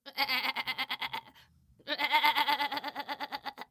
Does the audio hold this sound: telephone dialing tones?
no